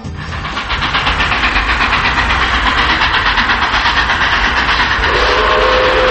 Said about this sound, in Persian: چند لحظه بعد صدای سوت قطاری اومد.